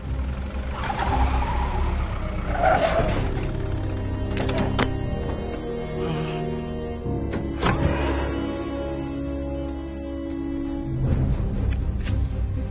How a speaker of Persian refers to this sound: شنیدی؟ انگار موتور خراب شده.